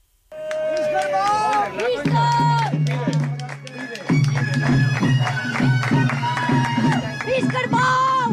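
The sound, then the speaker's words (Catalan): A festive crowd of Fornalutx villagers of all ages shouts "Visca el bou" and cheers continuously during the morning davallada del bou of the village festival in Fornalutx, with overlapping calls rising and falling over a steady, lively din that carries from start to finish. “Visca el bou, diuen aquests fornalutxancs de totes les edats, perquè aquest és l'ambient que avui de matí s'ha viscut durant la davallada del bou de Fornalutx.”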